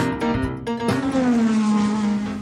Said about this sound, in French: Ah là là, ce jingle, chers auditeurs, chers auditrices, bonsoir et bienvenue sur Radio Gymnase de Nyon, la radio la plus rapide, vous l'avez compris.